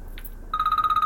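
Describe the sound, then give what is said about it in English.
A telephone starts ringing partway through, a bright electronic trill pulsing rapidly and steadily, with no one speaking. “I've been receiving strange phone calls from unknown numbers in the middle of the night.”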